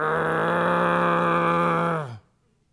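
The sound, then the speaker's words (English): A man's voice imitates a dog's growl, a low, steady, buzzing rumble held for about two seconds before it drops off abruptly into silence. “that's my best dog impression, okay?”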